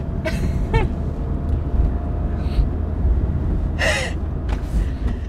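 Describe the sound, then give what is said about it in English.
A few sharp breathy bursts, quick gasping intakes and then a loud, forceful sneeze, set against a steady low rumbling hum; no one speaks. “Makes me want to sneeze.”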